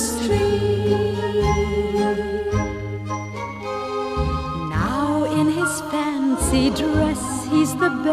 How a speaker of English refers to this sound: And as he stood so silently, wishing he were a Christmas tree, softly there came from the forest around him magical jingling bells. Nearer and nearer they seemed to surround.